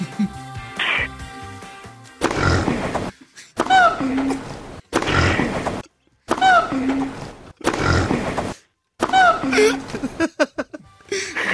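Pig grunts and squeals trade back and forth with the rising, hooting whoops of a gibbon in quick succession, each burst loud, separated by brief silences.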